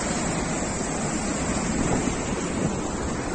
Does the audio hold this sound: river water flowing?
yes